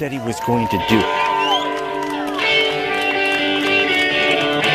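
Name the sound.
enthusiastic rally crowd cheering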